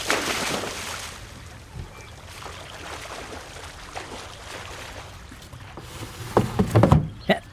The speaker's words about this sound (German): Moment, dann springe ich kurz ins Wasser und hole die Angel wieder rein.